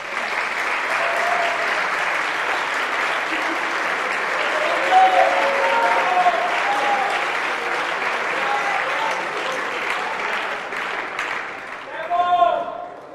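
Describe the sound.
A concert audience at a Rock on Air event applauds steadily for about twelve seconds to welcome a band with two guitars, a dense wash of clapping with scattered cheers, before it fades and a voice begins to speak at the end.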